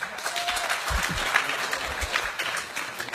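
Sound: audience applause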